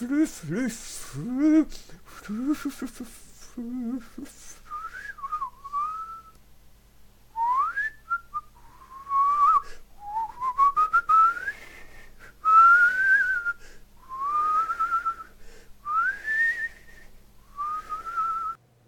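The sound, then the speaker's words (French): A man whistles a lively, wandering tune of rising and falling notes, fairly loud, after a brief burst of voices at the start. “Comment, il siffle?”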